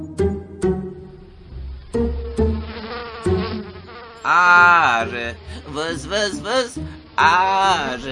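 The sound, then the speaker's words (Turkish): In a Keloğlan and Ay Kız educational program presented by the Yunus Emre Institute, a voice imitates a buzzing bee with loud, wavering, nasal 'vız vız' drones in a couple of bursts, following a light plucked musical intro with soft percussive hits. “Vız vız vız. Ne yapıyorsun öyle Keloğlan? Salondaki arıyla oynuyorum Ay kızım.”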